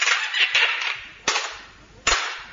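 A door with a newly fitted lock slams shut twice to test the lock, each a sharp, loud bang with a quick decay, about a second apart, over a steady hiss that starts loud and fades.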